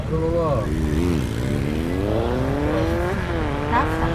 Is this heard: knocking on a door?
no